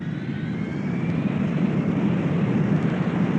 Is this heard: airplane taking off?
yes